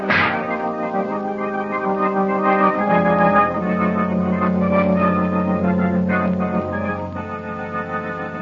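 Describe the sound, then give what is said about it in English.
A robot machine is smashed by its inventor: a sharp crash opens, then sustained humming, ringing metallic tones carry on with scattered clanks and rattles throughout, loud and steady, with no voices. “I imagine that outburst when he broke the machine relieved the nervous tension.”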